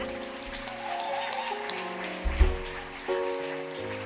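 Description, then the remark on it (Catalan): A concert crowd claps steadily for the guitarist over sustained instrumental music, the dense crackle of many hands running through the whole stretch, with a low thump partway through. “Un aplaudiment molt gran un altre cop per Arnau a la guitarra.”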